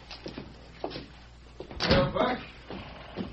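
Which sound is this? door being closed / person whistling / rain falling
door being closed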